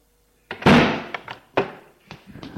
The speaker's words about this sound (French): Ferme la porte en la claquant.